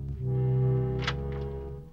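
A door of an outbuilding, opened by Kirk and McCoy in a Star Trek story, swings open with a long, low, groaning hinge creak, broken about halfway through by a brief sharp clack before the creak trails off. No voices.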